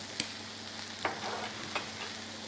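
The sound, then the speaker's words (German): Onions sizzle in a frying pan with a steady crackling hiss, broken by a few brief scrapes of a utensil stirring them, with a low hum underneath. “Ich mache es jetzt so, du brutzelst noch ein bisschen. Ich brutzel.”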